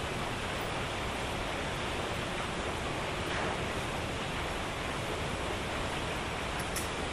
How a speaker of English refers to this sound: And now we have some traditional rainy weather.